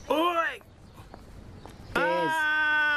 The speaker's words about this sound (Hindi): चीखो जोर से, आवाज रिकॉर्ड हो रही, चीखो ठीक से, चीखो।